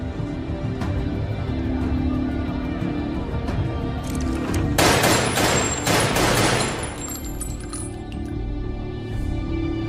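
A rapid burst of gunfire, several sharp cracks fired in quick succession near the middle, standing out over a constant low rumble and background murmur; the shots are fired into the head of a doctor who was a prisoner.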